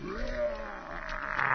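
A single drawn-out lion roar, fairly loud, rumbling steadily for over a second and growing rougher and stronger toward the end.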